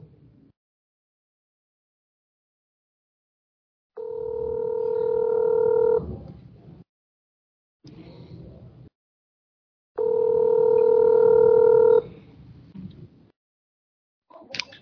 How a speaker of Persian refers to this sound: دارم حالا ایشونا تلفن میدنم. تلفن میشه.